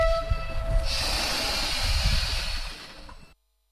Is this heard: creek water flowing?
no